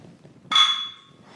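Two bottles of Pilsner Urquell beer knock together once in a toast, a single sharp clink followed by a bright glassy ring that fades over about half a second, with quiet background noise around it.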